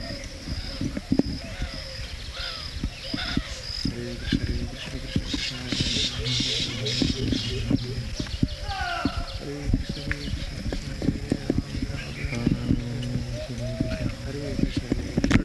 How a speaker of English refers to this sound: It's a colony of birds. Babui. They create a nest, hanging nest. It is very nice fiber fabricated. They know the art.